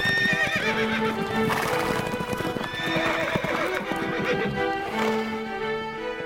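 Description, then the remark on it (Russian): Horses' hooves clip-clop loudly and rapidly in a steady galloping rhythm as riders gallop into a castle courtyard, with high whinnies rising over the beat throughout. No one speaks. “Когда же они на третий день прискакали на замковый двор, то с криками «Ура!» лихо спрыгнули с коней, щелкнув в воздухе каблуками.”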